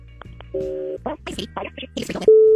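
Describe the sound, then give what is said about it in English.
Telephone line tones during an outgoing call: a steady two-pitch tone, then brief muffled voice-like bursts over the line, ending with a loud, sustained single tone. “We'll make the phone call to ….”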